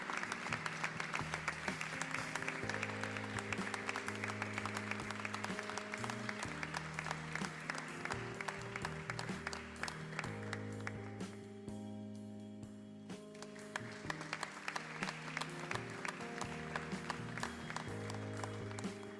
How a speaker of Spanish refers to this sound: Nos quedamos para la foto final y recibimos con el aplauso de ustedes también al segundo premio a mejor escaparate. Este año recae en Amor al Arte Tattoo Estudio.